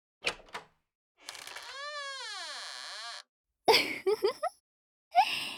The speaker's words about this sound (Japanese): さあ、おトイレの扉も開けました。